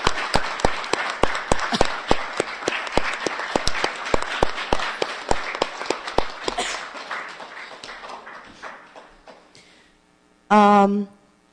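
Dense crowd applause for the CCB's 79 years of work, with sharp, steady claps, rolls on for several seconds, gradually thins out and fades, followed by a short, loud vocal whoop or shout.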